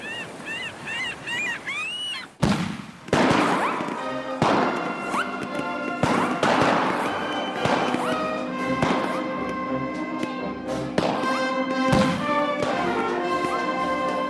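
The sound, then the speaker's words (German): After a couple of seconds of chirping, warbling tones, a blue boat suddenly explodes with a loud burst. Rumbling blasts and heavy thuds follow at intervals over a sustained droning tonal background. “Mit einem Mal explodierte das Boot.”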